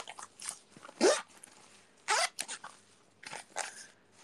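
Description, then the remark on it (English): A bag being opened and handled: a handful of sharp, crinkly rustling bursts in an irregular rhythm, with quieter shuffling between them and no voices. “I could open this bag and put all my acrylic gacha stuff here.”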